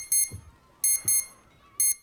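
An alarm clock rings in four shrill, electronic bursts at uneven intervals, loud, with a couple of soft low thumps underneath and no voices, as someone curled up on a bed reaches for it.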